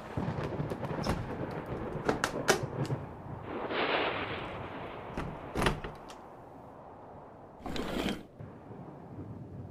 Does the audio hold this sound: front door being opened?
yes